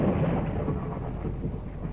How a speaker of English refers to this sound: Was that thunder, Hilda? Yes, sounds as if someone's in for a storm.